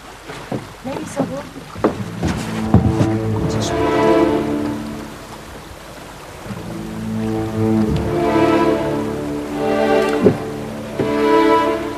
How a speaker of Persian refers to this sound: آروها داخل آب.